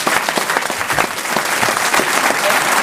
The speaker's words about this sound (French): À la projection, car c'est en ce moment la projection de ce film à l'Alpe d'Huez, La Première Étoile. On applaudit encore Firmin Richard.